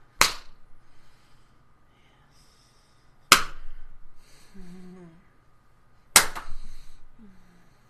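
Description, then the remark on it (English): Three loud, sharp slaps of a hand against a person's buttocks during a spanking land about three seconds apart, each followed by a brief, wavering vocal moan. “Tell me, how much do you like the slap of my hand against your ass?”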